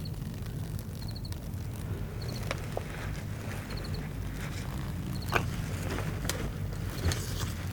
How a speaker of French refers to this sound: Très étonnant phénomène de vrombissement des ailes. Je pense qu'il s'agit de papillons. Dans un espèce de tamaris. Encore un phénomène inattendu que je m'empresse d'enregistrer avec conviction et bonheur.